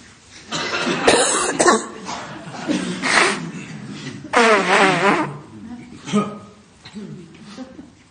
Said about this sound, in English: What do we tell people before the... To get out there and cough somewhere. Yeah, like cough, purposely cough.